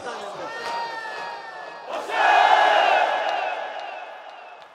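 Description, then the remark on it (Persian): A large crowd screams and shouts together, a dense roar of many high voices that surges louder about two seconds in, then slowly fades while the clamor continues. “جیغ بزن امروز.”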